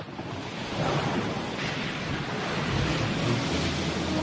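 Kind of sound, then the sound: nature, stormy sea waves crashing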